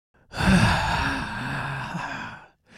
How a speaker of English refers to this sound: It feels like you're breathing really heavily.